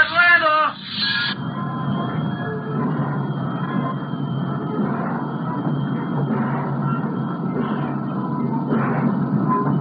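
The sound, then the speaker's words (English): A train whistle sounds briefly at the start, followed by a steady, loud rumble of a midnight train departing the city, rolling and clattering along without a break to the end. “And anyway, I want to watch the midnight train taking that pack of crackpots out of the city.”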